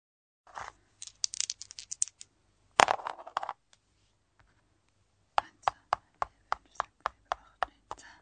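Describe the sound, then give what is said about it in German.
Dice being rolled rattle and clatter: a loose burst of knocks with one sharp hit, then after a pause a quick, evenly spaced run of crisp clicks on a hard surface. “An dieser Stelle würfeln wir gerade weiter.”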